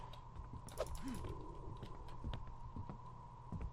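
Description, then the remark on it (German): Irregular footsteps thud and click over a steady electronic hum, a handful of sharp steps spaced unevenly as if someone walks in a game. No one speaks. “Ich höre Schritte, ich sehe aber keinen.”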